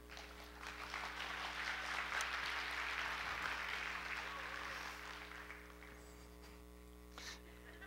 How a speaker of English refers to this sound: You did really good. Appreciate it. She deserves a lot more clap than that.